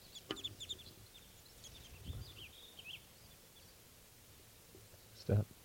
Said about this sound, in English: This is one of the birds. Stop. Series of alarm calls. Wild bird.